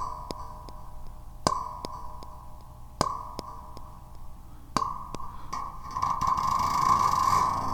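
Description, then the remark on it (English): A plucked electronic instrument tone played through a delay preset with chorus and reverb sounds over a steady hum, each sharp attack followed by quieter repeating echoes from the delay. The sound swells into a brighter, denser wash near the end. “Okay, yeah, we got some delay in there.”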